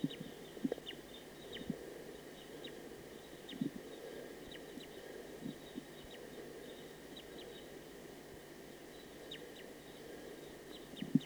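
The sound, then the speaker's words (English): A faint recording of a wild bird calling, with short high chirps repeating at a steady pace over a constant background hum and low rustling. No one speaks. “It's a recording wild bird.”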